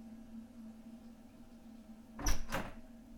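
A bathroom door just left of the main toilet opens or closes near the end, making two quick clunks over a steady low electrical hum, with no talking.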